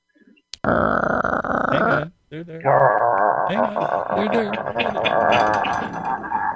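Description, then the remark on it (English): A huge, drawn-out belch rumbles loudly in two long, gravelly bursts separated by a short pause, its low croaking tone wavering and gurgling throughout. “Sounds like a gigantic belch.”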